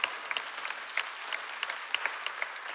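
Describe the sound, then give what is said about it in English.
An audience claps steadily, a dense patter of many hands with no voices over it, a few sharper claps standing out in the even wash of applause. “Thank you for clapping.”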